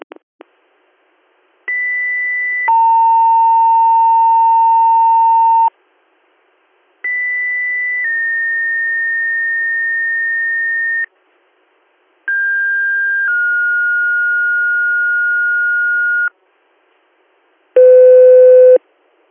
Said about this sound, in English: Stand by for a weekly pager test.